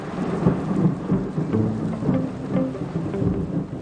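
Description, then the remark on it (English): A fierce rainstorm pours down steadily at night over a village, dense hissing rain with deep rumbling underneath, fairly loud throughout with no voices. “Soon the sky opens and the rain is fierce, and I half wonder if God's chosen this night to drown out the wickedness of the village.”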